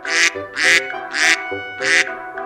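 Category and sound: bird, duck quacking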